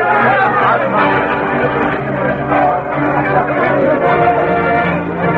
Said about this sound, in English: But unknown to the crowd that celebrated Bob Keller's victory